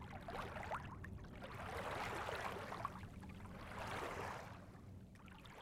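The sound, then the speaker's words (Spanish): A sailboat with its sails spread glides gently over the water at 8 in the morning: a steady wash of swishing water that swells and eases in slow surges over a low, continuous rumble, with no voices. “El cangrejo navega suavemente. Sus velas están extendidas.”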